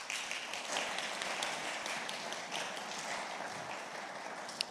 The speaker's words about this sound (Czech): a tě můžeme dát potlesk určitě.